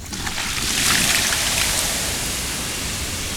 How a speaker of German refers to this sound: Ich lösche jetzt mit Wasser das Feuer.